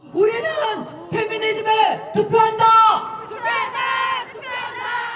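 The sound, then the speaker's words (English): A large crowd at a rally celebrating International Women's Day in Seoul, South Korea, chants "We vote for feminism" in loud, rhythmic unison, shouting short phrases in repeated bursts with brief pauses between them, energetic. “The crowd chants at a recent rally celebrating International Women's Day in Seoul.”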